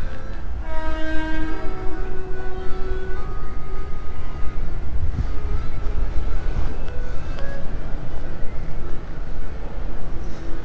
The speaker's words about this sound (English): There's a train about to go past, you won't be able to hear it.